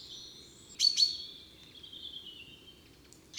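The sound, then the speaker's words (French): Sharp, metallic chaffinch 'pink' calls ring out: a quick double note, then another after a pause, over a faint, steady high-pitched birdsong in the background. “Les cris les plus communs du pinson sont aussi longuement répétés, comme ces pink, souvent doublés ou triplés.”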